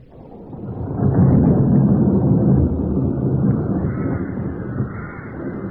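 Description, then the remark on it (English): A stormy outdoor ambience with a deep, rolling rumble of thunder that swells after a second and lingers, while steady wind roars underneath throughout. No voices are heard. “What brings you out in the storm?”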